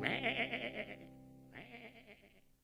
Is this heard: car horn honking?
no